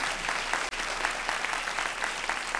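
An audience at a church service claps steadily to give thanks and glory to God, many hands blending into a dense, continuous wash of applause with a brief dip partway through, no voices rising above it.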